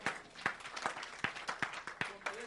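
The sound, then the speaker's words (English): An audience claps for the Lord Jesus together in a fairly steady rhythm, sharp overlapping claps landing about twice a second over a soft crowd murmur, at a moderate level. “Clap for the Lord Jesus.”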